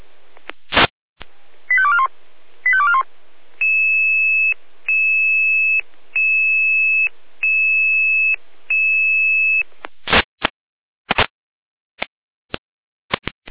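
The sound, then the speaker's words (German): Fire brigade radio alert tones from Jena, alerting the Lindig volunteer fire brigade to a fallen tree: a few sharp clicks and a quick warbling burst, then a steady high beep pulsing five times in an even rhythm, ending with scattered radio clicks. No voices. “Jena mit Alarmierung.”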